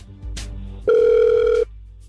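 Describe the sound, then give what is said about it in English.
A single outgoing ringback tone plays loud and steady for under a second, preceded by brief line clicks and a low hum, with no voices present. “Well, then stay quiet and we'll give him a call right now,”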